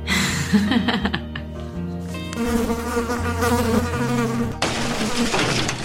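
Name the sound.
mosquito buzzing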